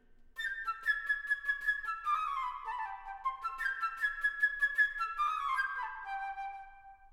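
A flute plays a bright, high melody alone, with rapid fluttering notes that swoop downward, then repeats the same lively phrase a second time before settling on a lower note.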